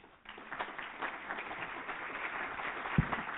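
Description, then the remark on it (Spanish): Applause from an audience after a talk, a dense steady patter of many hands clapping that starts abruptly and holds at an even level throughout, with no voices standing out. “no sin antes darte un caluroso aplauso.”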